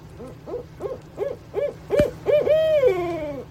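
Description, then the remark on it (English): An owl's ascending hoot: a series of short, mid-pitched hoots that quicken and build into a long, drawn-out final note that slowly trails downward, over a faint steady hum. “That's the ascending hoot.”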